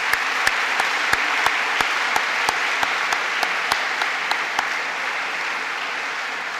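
An audience applauds steadily for several seconds to thank the student ambassadors for their work, a dense wash of clapping with a few sharp, evenly spaced claps standing out on top before they drop away near the end.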